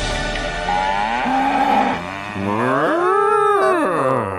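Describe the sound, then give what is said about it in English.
A cow moos twice in a row in the Caller of the Week jingle of a radio show, long drawn-out lowing calls, loud, with the second moo rising and bending in pitch. No one talks over it. “Yes, it's time to find our cow, our Caller of the Week.”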